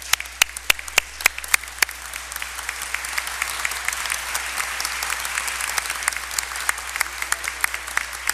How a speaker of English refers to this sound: Let's give this family a great round of applause.